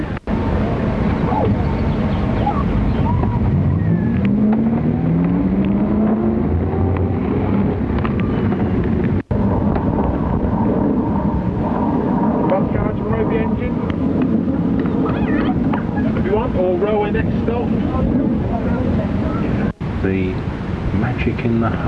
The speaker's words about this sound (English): Back on the bus again. Yep. Hand start bus, you know, you have to crank it by hand.